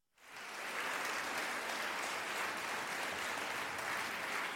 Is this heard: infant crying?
no